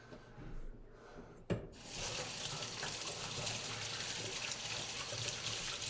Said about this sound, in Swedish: Måste skölja av händerna lite.